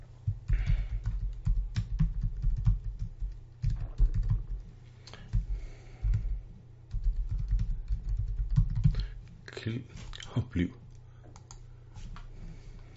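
Rapid, uneven clicking of computer keyboard keys being typed on while writing a message in a messaging function, in bursts with brief pauses, over a steady low hum.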